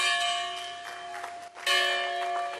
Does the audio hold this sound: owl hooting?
no